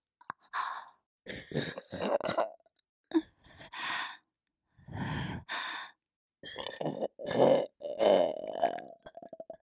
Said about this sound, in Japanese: あなたのチャーメン飲んで出たゲップは下品で汚くて、でも結構好きな人多いみたいなんですよね。